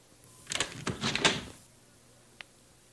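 front door being opened

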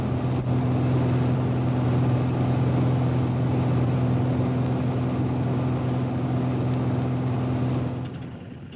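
airplane landing

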